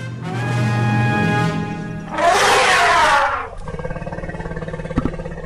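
A loud elephant trumpet: first a long, brassy, tonal bellow, then a harsh, noisy blast, followed by quieter rumbling sounds. No one speaks.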